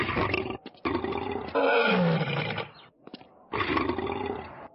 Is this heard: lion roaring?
yes